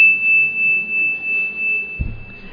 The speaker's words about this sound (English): Can you come back to the center again? So, when you hear the chime, that's bringing us back together, yes?